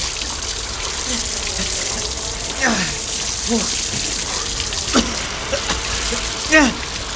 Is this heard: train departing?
no